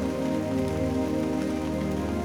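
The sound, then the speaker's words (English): Steady rain patters on a hard surface, a dense continuous wash of drops at an even, fairly loud level with no voices or pauses throughout. “Listen to the sound of the rain.”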